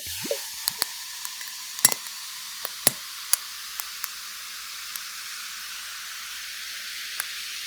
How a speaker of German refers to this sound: Das mache ich jetzt auch mal mein Tonic Water auf und gieße mir das jetzt in mein Glas mit den Eiswürfeln.